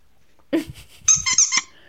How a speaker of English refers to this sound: That squeak, that noise. OG. I mean, it's OG.